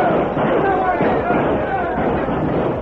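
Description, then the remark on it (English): A loud, continuous clamor of many yipping, whooping battle cries from Cheyenne raiders on racing ponies, mixed with sharp gunfire bangs as they circle a wagon train, dense and chaotic and unbroken from start to finish. “Bob Hobart, stunned by the sudden onslaught of yipping, painted savages, stood rooted to the spot.”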